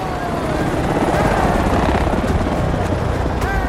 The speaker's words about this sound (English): Glancing over his shoulder, Bond spots an approaching helicopter. Sciara joins a massive crowd in a large square. Running, Sciara looks up as the helicopter swoops overhead.